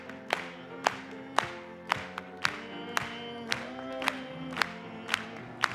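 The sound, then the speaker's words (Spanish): An audience claps together to applaud God in a steady rhythm, about two sharp claps per second, with a low murmur of voices and held tones sustained underneath. “Vamos a aplaudir. Vamos a aplaudirle a Él.”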